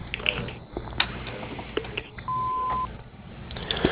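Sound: answering machine beep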